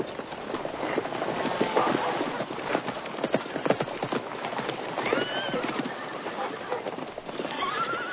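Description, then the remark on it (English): Horses whinny and neigh over a steady clatter of hooves clip-clopping, with the busy, continuous sound of several animals moving together and faint birdsong in the background. The horses are waiting to be ridden. “I have your horses waiting. You must ride against them now.”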